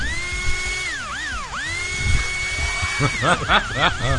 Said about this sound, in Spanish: Una máquina afeitar. No. Es un taladro a pilas, pero bueno.